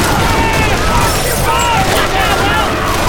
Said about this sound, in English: Seconds later, heavy gunfire erupted from the bank building. The banker and his tellers were all heavily armed and making a fight of it.